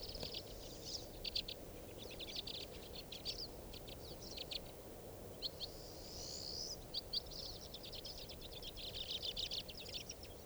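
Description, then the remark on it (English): White-winged crossbill calls: a steady stream of high, rapid chips and trills, some run together in quick bursts, over a low rumbling background hiss with no talking. “That is a white wing.”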